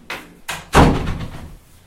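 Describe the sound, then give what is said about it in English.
A green door at a distribution centre for Irish products shuts with a couple of light knocks first, then a loud, heavy slam that rings out and fades over the next second, with no voices. “The green door.”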